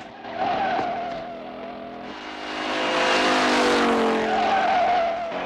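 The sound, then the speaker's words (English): A motorcycle skids hard at a level crossing as a car streaks across, and the rider tumbles from the bike; tires screech in long wavering squeals over a loud, rushing engine roar that swells midway and holds steady for several seconds, with no voices. “Careering along another alleyway, he streaks across a level crossing, causing the motorcyclist to skid and tumble from his bike.”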